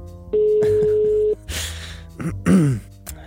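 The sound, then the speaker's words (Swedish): A single steady ringback tone, about a second long, sounds in a phone earpiece as an outgoing call is placed again. Breathy rustling and a short sighing vocal sound follow. “Nu ringer jag igen.”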